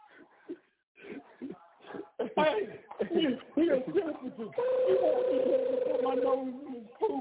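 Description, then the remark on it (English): A phone rings with a steady electronic tone lasting a couple of seconds, fairly loud, while people talk and make vocal noises over it. “Hey, man, get your phone.”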